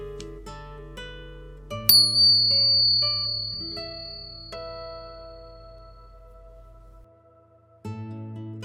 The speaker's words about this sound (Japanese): リラックスできる鐘の音を聞いていただいてからスタートです。